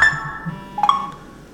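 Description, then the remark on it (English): An iPhone rings with a FaceTime call using the Playtime ringtone, dialled from a landline phone: a sustained electronic tone fades out, then a bright new chime note sounds partway through and rings on. There's no talking. “That's now FaceTime ringing with the Playtime theme.”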